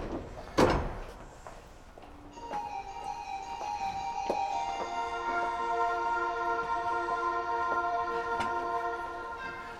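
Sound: train sliding doors opening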